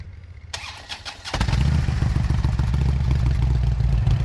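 A Harley motorcycle engine cranks briefly with a clattering starter, then fires up and settles into a steady, deep idle rumble with a loud, throbbing low-pitched beat, out in the woods. No one speaks.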